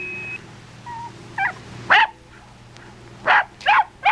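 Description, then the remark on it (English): People bark like dogs at each other in a series of short, sharp yips and barks, a few quiet ones first, then louder bursts with brief gaps between them, over a low background hum. “Besides bark at each other.”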